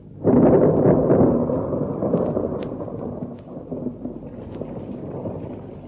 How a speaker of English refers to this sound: And the sky became full of clouds like a sea full of fish. The two families watched, excited and yet horrified. And then the thunder came.